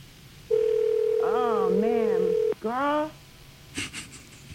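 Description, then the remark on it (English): A steady electronic ringback tone hums over a phone line for about two seconds as a call to a workplace goes unanswered, while a voice talks over it, followed by more speech and a brief clatter. “Nobody's answering the phone at work?”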